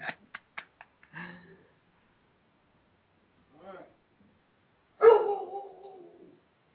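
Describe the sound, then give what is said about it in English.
A dog gives a few short, sharp sounds, then a loud, drawn-out whimpering yelp that trails off. Quiet gaps fall between the bursts. “Oh, you want to work out too? I got dog working. Yeah, the dog is working out after the show.”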